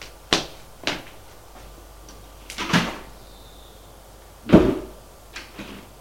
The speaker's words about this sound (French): A ouvert la porte. Entre. Il entre.